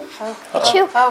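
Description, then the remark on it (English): A single sneeze with a voiced, drawn-out build-up, a sharp breathy burst, and a brief vocal tail. Fairly loud and heard on its own, with no talk over it. “I gotta sneeze.”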